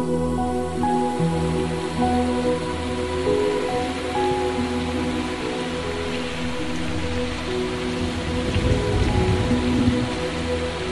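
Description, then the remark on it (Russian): Steady rain patters continuously outside the window, a dense, even hiss of drops on a surface, with soft sustained musical tones lingering underneath and no voices. “Дождь за окном исполняет последние истеричные танго.”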